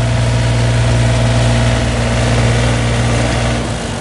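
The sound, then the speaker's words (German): A heavy construction machine engine idles steadily with a deep, droning hum and constant low harmonic tones, loud and unbroken, with no voices present, at the start of building work on a bicycle tunnel under Zurich main station linking Kreis 4 and Kreis 5. “Darum sind heute die ersten Maschinen für das Bauprojekt aufgefahren.”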